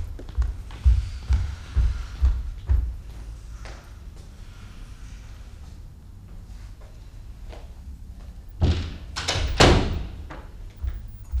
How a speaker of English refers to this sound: I'm going to shut the door.